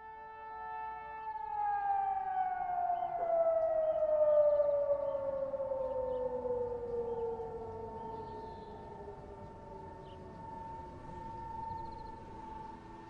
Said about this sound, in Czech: Kdesi v dálce zní siréna záchranné služby, ale z paneláku nikdo nevybíhá.